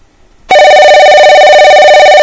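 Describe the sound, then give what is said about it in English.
After a brief quiet moment, a loud, steady telephone ring tone of an outgoing call to a Japanese phone directory service starts abruptly and holds without a break to the end, clear, with no one speaking. “make some weird, strange call to the Japanese directory service, phone directory service.”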